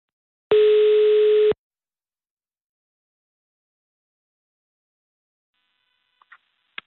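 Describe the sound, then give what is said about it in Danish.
A single one-second burst of a steady telephone ringing tone sounds on a phone line as a call is placed, followed by several seconds of silence and a couple of faint clicks near the end. “Og for at du ikke skal tro, kære lytter, at det er noget, jeg bare finder på, så vil jeg nu ringe til hans barnebarn.”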